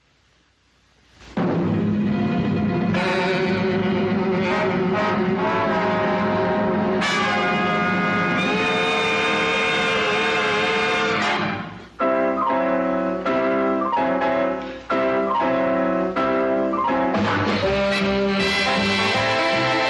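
A big band jazz orchestra plays loud, full brass-heavy chords, starting after a brief quiet moment and carrying on steadily with only a short dip partway through, no voices.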